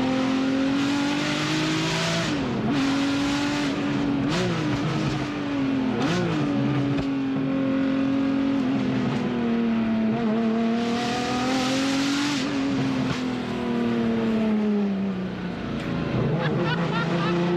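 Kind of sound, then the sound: vehicle, race car engine revving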